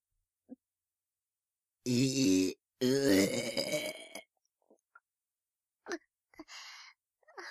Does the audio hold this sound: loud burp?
yes